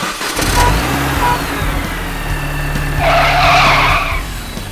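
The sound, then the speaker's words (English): A car's tires skid with a loud, drawn-out screech over a steady rumble of engine and road noise, the squeal swelling in the last couple of seconds. No one speaks. “Noises from traffic.”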